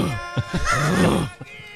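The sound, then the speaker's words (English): A person imitates a lion's roar: a few short guttural grunts lead into one long, rough, low-pitched roaring growl that swells and then trails off, loud and unaccompanied. “Imagine minding your own business and next thing you hear a lion roar from your neighbor's yard.”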